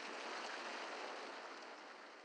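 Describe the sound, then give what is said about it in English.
A soft, steady wash of distant ocean waves, a continuous hiss-like rush with no distinct breaks, fairly quiet and heard on its own without any voices. “Leaves rustling, distant waves”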